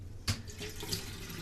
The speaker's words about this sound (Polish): Czajnik wody nalić trzeba, świeżeńkę. Ze swojej studni to najlepsza woda.